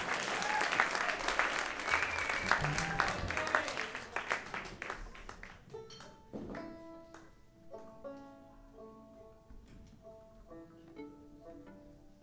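A crowd applauds with a dense, loud wash of clapping for about five seconds, then the clapping thins out and fades as sustained instrumental notes begin to play.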